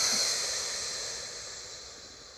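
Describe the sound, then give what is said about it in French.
A forceful exhale following a deep inhale during a guided relaxation exercise, a loud airy rush that gradually fades over about two seconds, with no talking. “Inspirez profondément pour vous dynamiser. Et soufflez fortement.”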